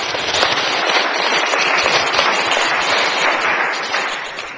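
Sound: audience clapping hands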